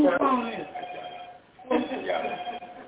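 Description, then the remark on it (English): A phone ringtone rings out in two bursts with a short gap between them, a bright, warbling melodic tone that sounds fairly loud and slightly tinny. “Hey, my phone.”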